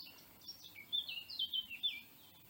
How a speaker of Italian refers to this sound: C'è molto suono di bosco, un leggero vento.